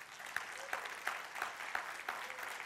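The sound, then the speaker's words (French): An audience applauds God during a morning church service, a dense wash of many hands with a steady rhythmic pulse of louder claps about three times a second. “Est-ce qu'on peut applaudir ce Dieu magnifique ce matin?”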